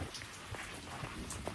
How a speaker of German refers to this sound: So. Jetzt sitze ich unter meinem Terrassendach. Es regnet. Und es gewittert.